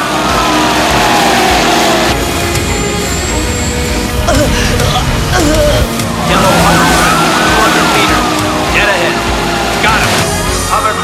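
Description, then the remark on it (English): Sirens of a flotilla of police boats carrying armed officers wail up and down over a loud, churning roar of engines and water as the boats speed head-on towards a hovercraft. The sound is continuous, with indistinct voices mixed into the din. “A flotilla of police boats with armed officers speed head-on towards the hovercraft.”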